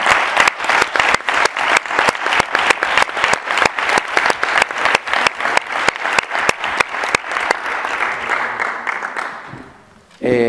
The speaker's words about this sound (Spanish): Así que muchísimas gracias y ahora sí, un fuerte aplauso